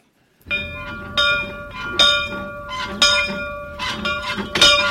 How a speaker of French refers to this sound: Cette cloche a appartenu à Flaubert. Oui, exactement, monsieur. Cette cloche était à la maison d'habitation de la famille de Flaubert.